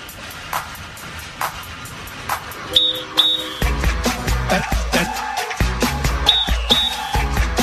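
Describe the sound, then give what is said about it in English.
Short, shrill whistle blasts come in two quick pairs, sharp and fairly loud over a noisy, crowd-like background, with a deep rumbling beat taking over partway through. “Hey, guys, turn on the radio. They're blowing whistles.”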